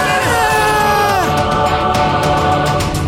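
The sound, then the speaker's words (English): A person screams loudly and continuously for about three seconds, the high, strained voice wavering, sliding downward partway through, then holding a raw, sustained pitch to the end. “Why'd I scream?”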